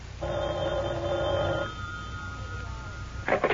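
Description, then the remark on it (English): A single long ring tone heard through a telephone line during a call placed from a phone booth, thin and slightly muffled, lasting over a second before fading into low line hiss, with a short burst of sound at the end. “Then, his face expressionless, he gets out of the car also, crosses the street, and goes into a phone booth.”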